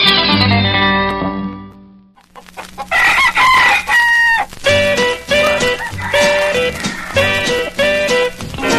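A rooster gives one loud, drawn-out crow. After a short pause, lively, bouncy string-band music begins and carries on with a steady rhythm.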